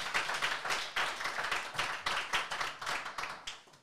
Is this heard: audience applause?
yes